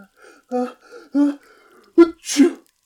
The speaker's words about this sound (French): Un éternuement étouffé retentit dans la pièce.